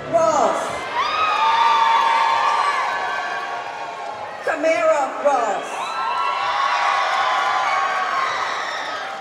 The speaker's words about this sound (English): When audience members were told to please hold your applause, they yelled louder.